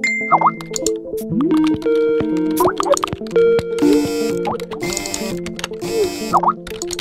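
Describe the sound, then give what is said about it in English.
A dense, overlapping barrage of digital notification chimes, dings and pops from notifications, tweets and messages, steady and relentless, with bright bursts of electronic tones layered over one another. “A constant thrum of notifications, tweets, and messages.”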